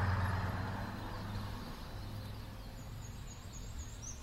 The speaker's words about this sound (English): That was the worst bus ride I've ever had. What a crazy driver. And look at the tyres. They're ancient.